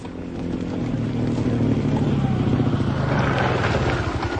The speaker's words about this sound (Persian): موتوری از راه میرسه. راکب از موتور پیاده میشه.